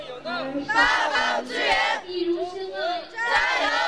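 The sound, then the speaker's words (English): A couple dozen young volunteers at a Chinese Red Cross collection box on a square in Chengdu, China, cheer and chant together in loud, rhythmic bursts, chanting "Go China" and "Sichuan, be strong," with rising shouted syllables repeating in waves over the whole stretch. “They all sent up a cheer whenever someone dropped money into the box.”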